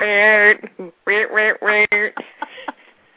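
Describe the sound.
A voice mimics a game-show buzzer as a homemade sound effect in place of real buzzers during a game: one long, nasal, buzzy tone, then three shorter loud bursts, trailing off into a few softer, quieter blips.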